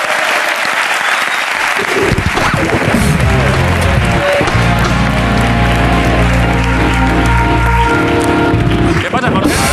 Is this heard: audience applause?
yes